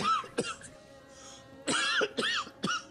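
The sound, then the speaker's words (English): A series of harsh coughs comes in uneven bursts: one short hack, a pause, then three rough coughs in quick succession with some throaty voicing between them. “Oh, well, that's strawberry a funny cough, thing.”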